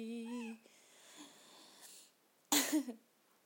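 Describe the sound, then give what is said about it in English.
A small female cat meows twice at its owner: a soft, steady tonal cry at the start, then after a quiet pause a louder, harsher, breathier meow near the end. No one speaks. “My little cat is meowing at me.”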